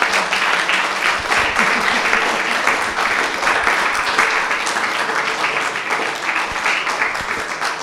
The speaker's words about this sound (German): Nochmal einen grossen Applaus für die beiden Frauen.